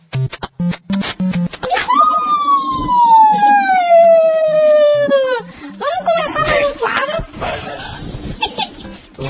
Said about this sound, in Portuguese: Isso parece uma ambulância de pobre no meio da rua.